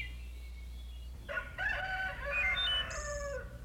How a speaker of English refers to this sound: The birds woke up as the sky changed from black to light. And a rooster crowed good morning.